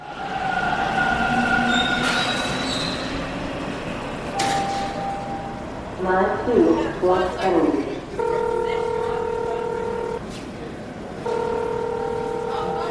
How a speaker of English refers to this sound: I'm downstairs in Dufferin Station right now, just waiting for my train.